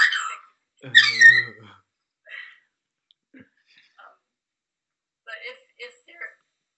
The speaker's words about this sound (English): And birds are very happy, it looks like. They like the discussion.